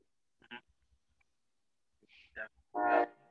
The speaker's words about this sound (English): Hold on, I got the train coming by, loud behind train.